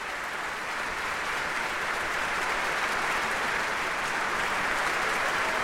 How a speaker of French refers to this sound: Je vois que les applaudissements continuent et même qu'ils redoublent. Ça doit être pour accueillir mon invité, je pense, parce que mon invité, c'est une des plus belle voix de la chanson française.